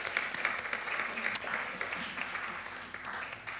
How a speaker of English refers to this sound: I declare you to be elders and church councillors of the Uniting Church in Australia in the Kenmore congregation. And we can applaud them. Thank you so much.